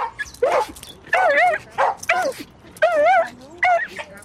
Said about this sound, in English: Ray Ray immediately starts to bark like crazy at the other terriers.